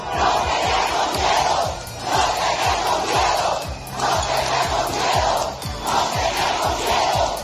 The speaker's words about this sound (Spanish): Entre estos gritos de no tenemos miedo, también los de libertad, la líder opositora, María Corina Machado, ha encabezado esas protestas